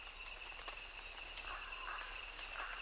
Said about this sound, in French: On entend d'abord les chants des insectes et des grenouilles.